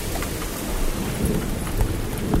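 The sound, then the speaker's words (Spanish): Raindrops patter against the buttons of an audio recorder in Madrid, irregular sharp taps over a steady wash of rain, with occasional heavier low thumps as drops strike. “Esto, por ejemplo, son gotas de lluvia cayendo sobre los botones de mi grabadora.”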